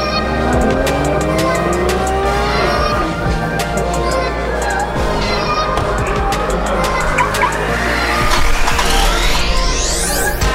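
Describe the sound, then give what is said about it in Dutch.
Cars roar around the Circuit Zandvoort race circuit during the EV Experience live event, engines droning loudly with rising whines as they accelerate, building to a sharp climb near the end over a constant busy background rumble. “U hoort het waarschijnlijk al tijdens een live event. Tijdens de EV Experience op Zandvoort.”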